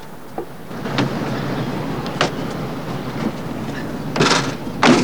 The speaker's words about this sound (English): The car stops and they both get out, heading for the boot.